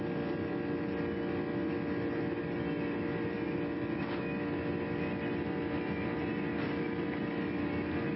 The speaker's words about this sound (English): And you can even hear the sounds, the bumps, the rattling of that L1011 rumbling and stumbling down that runway. Greatest airplane designed, in my estimation.